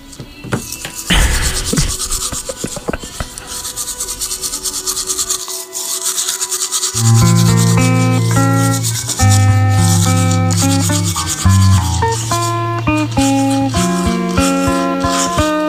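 Steady scrubbing of a toothbrush on teeth fills the first few seconds, a brisk raspy back-and-forth, then it stops and a bright, loud synthesized melody takes over.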